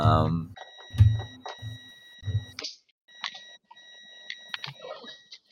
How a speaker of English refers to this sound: I mean, you hear all that beeping on him.